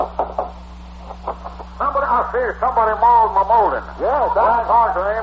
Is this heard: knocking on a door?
yes